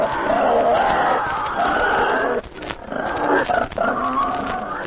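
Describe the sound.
A voice imitates pigs excited when the farmer went out to feed them, a loud, steady run of rough grunts and snorts that pauses briefly midway, then resumes with choppier bursts.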